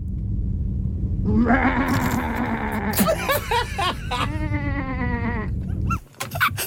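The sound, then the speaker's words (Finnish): Loud, wavering sheep bleats follow one another closely for several seconds, with a quavering, shaky tone over a steady low hum, then cut off abruptly. “Se on pahis lammas.”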